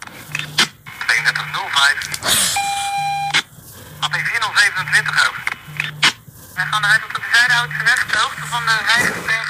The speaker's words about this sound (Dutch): Ja, ik heb de ringtoon van de politieband.